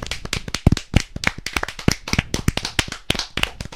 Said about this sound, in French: Donc, oui, on peut lui faire un tonnerre d'applaudissements.